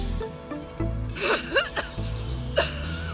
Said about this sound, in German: Hört ihr das? Sie hat Husten. Ist ja kaum zu überhören.